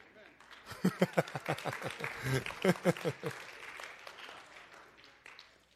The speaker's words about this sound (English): for the 12 of you that clapped just now. You're my favorite church members.